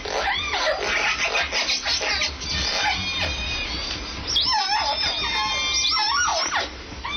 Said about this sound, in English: Scientists have long suspected that whales have language, and new research suggests that they even have local dialects. What you're hearing is a recent gathering of all three pods of Puget Sound's endangered southern resident orcas.